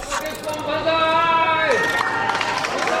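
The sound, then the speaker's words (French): Wedding guests in Japan cheer in unison to congratulate the newlyweds Princess Ayako and Kei Moriya, holding a long, rising shout of "banzai" that breaks off into a second burst of mixed voices and excited chatter, loud and lasting about three seconds. “2 beaux jeunes gens et voilà ce que l'on crie aux époux pour les féliciter.”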